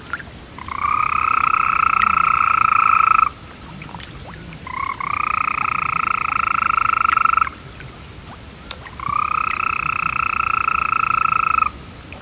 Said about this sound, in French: Est-ce que vous pourriez nous parler du crapaud vert, s'il vous plaît ? On va l'écouter d'abord.